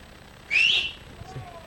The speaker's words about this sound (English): Great dads have a great whistle. You know, when they call, they can call you in the neighborhood. Who's got a great whistle? Anybody? Who's got a really good one? Let it rip. Let's hear.